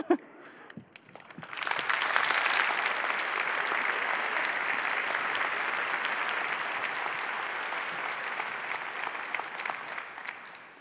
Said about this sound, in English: I think we can actually give that thank you back with some more applause. Thanks a lot.